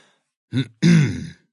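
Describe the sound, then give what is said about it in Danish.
A man clears his throat: a short rough catch followed by a longer, gravelly rumbling push that fades out, with silence around it, as the story character Helligånden (the Holy Spirit) clears his throat before introducing himself. “Helligånden rømmede sig og skulle lige til at præsentere sig”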